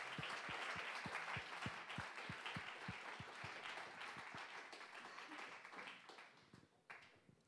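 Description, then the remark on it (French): An audience applauds to acclaim God, a dense wash of many hands clapping with a few distinct rhythmic claps standing out early, continuing for several seconds before gradually thinning out. “Je vous propose juste qu'on puisse applaudir pour acclamer Dieu, pour sa bonté, pour tout ce qu'il a fait et tout ce qu'il va faire.”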